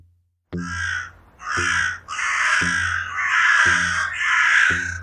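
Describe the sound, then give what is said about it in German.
A crow caws five times in a steady, evenly spaced series, each call loud and harsh, with no one talking. “Heute über Corviden, Raben und Krähen.”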